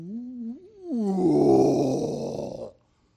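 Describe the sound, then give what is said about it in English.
A voice imitates a male zoo lion's roar, starting with a low, wavering groan that swells into a loud, raspy, sustained bellow for nearly two seconds before cutting off abruptly. “Every afternoon at 4 o'clock, the male lion would roar.”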